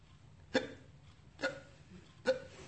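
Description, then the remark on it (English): A speaker imitates hiccups: three short, sharp hiccup sounds spaced about a second apart, clear, with a quiet low background hum in between. “Like that, that's a hiccup.”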